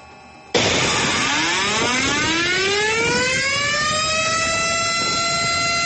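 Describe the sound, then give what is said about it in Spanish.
An evacuation drill alarm siren in Bogotá, sounded around 10 in the morning to start the district-wide evacuation drill, bursts on abruptly and wails steadily upward in pitch over several seconds, loud and sustained with a rich, buzzing tone and no voices. “Sobre las 10 de la mañana sonaron las alarmas para dar inicio al simulacro de evacuación del distrito, en el que cientos de personas salieron de sus oficinas, hogares y edificios para participar en la jornada.”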